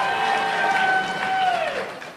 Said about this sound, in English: Should someone have to have a government-issued license to drive a car? Hell no. Yeah! People are cheering.